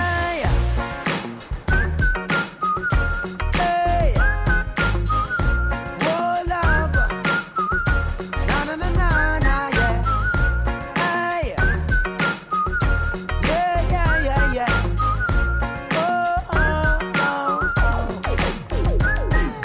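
A person whistles a lively, sliding melody over a steady, pounding drum beat and deep bass, the tune loud and continuous throughout.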